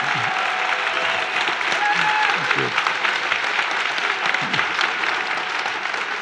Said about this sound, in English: And now it's like, it's actually kind of an experiment what you're going to do when you applaud. But thank you all so much.